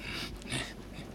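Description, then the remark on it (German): A dog hiding under a bookcase pants softly as a rainstorm moves off, a few quick breathy huffs running together over a second, quiet and unhurried with no voices around. “Ich kann mich wieder atmen hören.”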